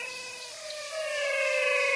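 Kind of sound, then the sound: animal, frogs calling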